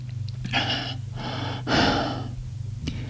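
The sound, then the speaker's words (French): Three breathy gulping sounds of someone swallowing tap water from a glass along with tablets, the last one fuller, followed by a small click. Nobody speaks, and a low steady hum runs underneath. “Mets les comprimés dans sa main et avale une gorgée d'eau.”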